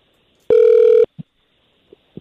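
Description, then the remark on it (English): A loud, steady electronic phone tone sounds once for about half a second as an outgoing phone call starts to ring out, then a few soft clicks follow in near silence. “When it starts ringing, it'll just be all on you.”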